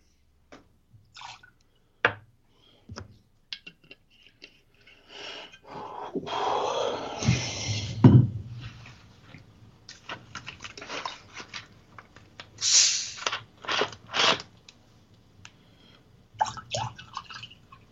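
A drink is poured into a glass, a steady splash swelling for a couple of seconds among scattered clinks, drips and small knocks, with no one speaking.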